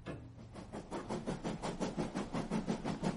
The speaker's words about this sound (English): Primus, Simeon and I are on a train.